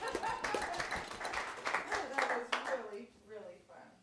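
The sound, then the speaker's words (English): A group of people claps together, a dense, irregular patter of hands that stays steady for a few seconds and then thins out as voices begin talking. “Clap for that.”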